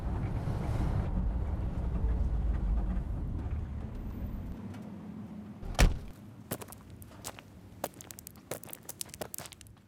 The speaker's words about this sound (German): Ich parke das Auto auf dem Kiesplatz direkt in der Kurve in Jachenau.